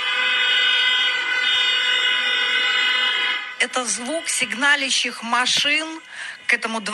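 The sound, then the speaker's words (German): Several car horns blare together in one long, unbroken, loud chord of overlapping tones for a few seconds, then cut off as someone begins talking. The cars are in front of the Palace of the Republic in Belarus, honking in protest against Alexander Lukashenko's constitutional assembly. “Das sind die Hupen der Autos vor dem Palast der Republik, ihr Protest gegen die Verfassungsversammlung von Alexander Lukaschenko.”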